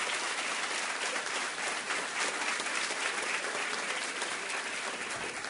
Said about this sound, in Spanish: Así que primero que nada le voy a pedir a todos los que nos están acompañando un aplauso a nuestros queridos competidores que están hoy aquí.